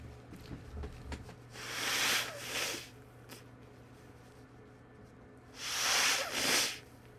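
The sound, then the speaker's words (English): Two bursts of nose-blowing, each a rough, breathy honk lasting about a second and a half, separated by a few seconds of quiet background hum with faint clicks. “I got to blow my nose first before we start here.”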